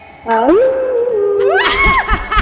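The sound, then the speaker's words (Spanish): A woman's voice imitates a howl, one long, loud wail that swoops up, holds steady, then climbs higher before breaking off into breathy, rough noise. “empodérate y danos un aullido”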